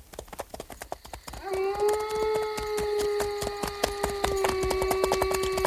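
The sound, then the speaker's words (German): Steady, even clip-clop of hooves from several horses ridden at a slow walk through the darkness, joined after a second by a long, sustained high wailing tone that holds over the hoofbeats to the end, as a coyote howls here and there. “So ritten sie durch die Dunkelheit.”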